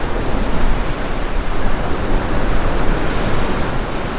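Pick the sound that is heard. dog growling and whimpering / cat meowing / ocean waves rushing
ocean waves rushing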